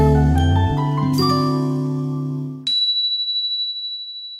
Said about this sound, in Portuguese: Se tinha uma coisa que divertia Dudu, era a campainha. Afinal, o som dela sempre trazia uma surpresa diferente